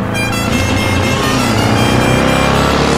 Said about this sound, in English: Huh? A motorcycle? What gives? Oh, no.